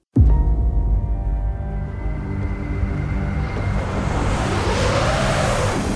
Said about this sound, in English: I'm sure what I'm doing right now looks absolutely beautiful from the outside. A lone car wending its way up a majestic snowy mountain. This is snow globe material